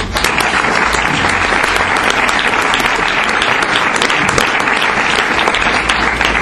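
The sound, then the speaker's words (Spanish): An audience at an award event applauds a short-film agency steadily, the dense clatter of many hands clapping at a loud, even level for several seconds without pause. “Entonces, yo os pediría en primer lugar un aplauso para la Agencia de Cortometrajes Español, porque creo que la labor desde luego es ideal.”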